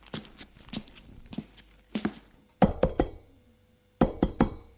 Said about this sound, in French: Sa mère, inquiète, va frapper à sa porte.